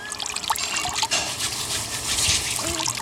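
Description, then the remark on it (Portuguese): A steady trickle of water, poured by one person, splashes over another person's hands as they wash them with soap. Faint rubbing and dripping sounds are mixed in, continuous throughout. “Aqui tens o sabão e eu deito água enquanto tu lavas as mãos.”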